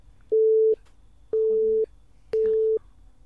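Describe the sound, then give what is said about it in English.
Three loud censor beeps, each a steady mid-pitched tone lasting about half a second, separated by short gaps of quiet with a faint low murmur underneath. “There's going to be amazing beeping out every moment of this, actually.”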